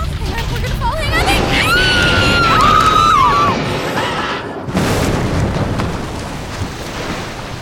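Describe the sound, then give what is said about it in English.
A bridge collapses in an earthquake: a loud, continuous roaring rumble with shrill metallic groans that waver up and down, a sudden brief drop, then the heavy crashing roar resumes. “The bridge is falling!”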